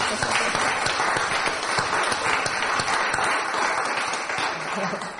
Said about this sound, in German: Ich möchte einfach den lieben Gästen sagen, die übrigens freue ich mich, dass wir so viele Gäste heute Morgen haben. Da können wir auch mal klatschen.